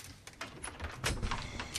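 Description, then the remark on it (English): A door chain rattles loose in a few quick metallic clicks, then the door creaks and swings open with a soft scrape, all fairly quiet and without any voices. “gets up and walks to the door, then takes off the chain and opens it.”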